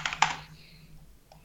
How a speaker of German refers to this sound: Ich musste jetzt mal auf meine laute Tastatur hauen. Oh Mann. Ich liebe diese Brown Switches, hört euch das an. Es ist der pure Ohrorgasmus.